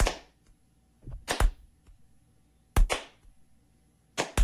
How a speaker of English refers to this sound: You can't tell these are very sarcastic claps. Laying it on pretty thick, really.